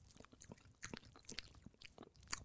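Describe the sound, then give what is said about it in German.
A person, holding their breath, imitates chewing with their mouth, making a quiet, irregular run of wet smacking and crunchy clicks, with no talking. “Das war aber gar nicht so einfach, nicht zu atmen und so ein Kaugeräusch zu machen.”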